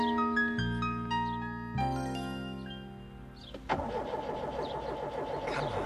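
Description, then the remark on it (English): A few seconds of steady ringing tones give way to a car engine cranking: a rapid, rhythmic whirring chug from the starter that keeps turning over without catching. “I'm trying, Robin, but the car won't start.”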